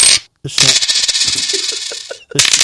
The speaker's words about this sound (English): Extra coins today. We threw in a couple of extra.